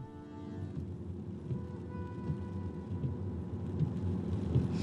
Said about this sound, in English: At the foot of the reek, in the wind and rain, Crowpatrick. Well, you see the base of it, the rest of it is shrouded in mist. And the wind here at Murrett's is fairly howling.